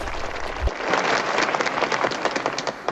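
people clapping

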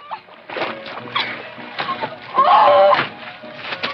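slap

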